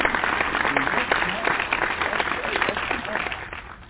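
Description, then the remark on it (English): A church audience applauds steadily to welcome the pulpit ministers, many hands clapping in a dense, sustained burst at a fairly loud, even level throughout, with no one speaking over it. “a heartfelt and spiritual warm welcome as we put our hands together for applause.”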